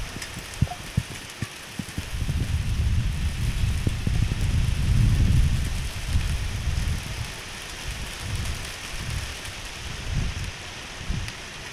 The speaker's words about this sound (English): And thunderstorms, because why not thunderstorms? We like those. Yes. This is a thunder collage that I recorded some time ago.